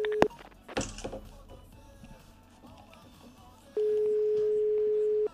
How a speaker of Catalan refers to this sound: Tres trucs i pengem. Bueno, esperem una miqueta més. No, sembla si que no té contestador ni res d'això.